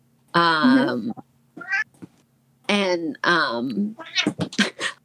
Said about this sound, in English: Cats. Hello, kitty. We love our cats and our dogs here, so they're always welcome.